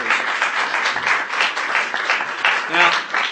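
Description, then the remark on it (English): A crowd applauds for schoolchildren with dense, steady clapping that holds at an even loudness throughout, with a brief tonal voice or cheer rising through the noise near the end. “Give these kids another round of applause.”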